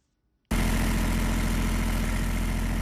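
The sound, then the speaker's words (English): A soap-making machine at Junubi Soap Company in Juba, South Sudan, foaming soap bars out of palm oil and water-based products, starts abruptly after a brief silence, then runs as a loud, steady mechanical drone with a deep hum and a fast, even rhythmic chug. No one speaks. “A machine at Junubi Soap Company in Juba foams soap bars out of palm oil and water-based products.”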